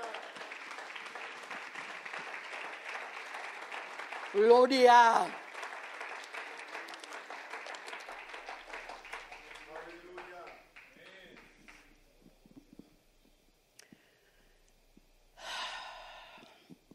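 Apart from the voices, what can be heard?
audience applauding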